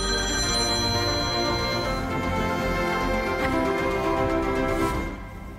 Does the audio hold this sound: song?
no